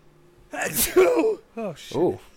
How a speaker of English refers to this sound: Out of 10. Two sneezes out of 10. There you go. Two sneezes out of 10.